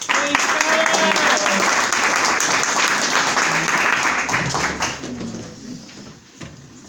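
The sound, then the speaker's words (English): A crowd at an organization's gathering bursts into loud, dense applause as a speaker is brought up to talk about membership; it holds steady for several seconds, then tapers off and fades to a few scattered claps near the end. “Round of applause for Scarlett.”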